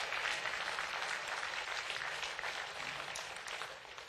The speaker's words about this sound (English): Amen. Can I get a couple of men to clap your hands to that?